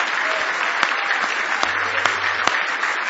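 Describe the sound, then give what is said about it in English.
A church audience at a morning service applauds the Lord in a steady, dense wash of hand claps of praise, with a few sharper individual claps standing out over the even roar. “Well, give the Lord a big hand clap of praise if you believe it this morning.”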